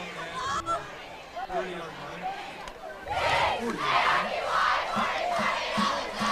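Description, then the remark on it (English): A large football crowd roars and chants in waves, the cheering swelling louder in the second half with rhythmic bursts, as sections on the east and west sides of the stadium answer each other in a cheer battle, with voices of a broadcast booth faintly underneath. “We've kind of got a cheer off going on the east and the west side.”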